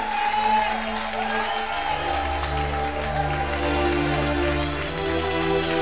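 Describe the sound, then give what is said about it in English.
An audience claps and cheers loudly for several seconds, with scattered whoops and shouts over a steady low hum of music underneath. “Clap for Jesus.”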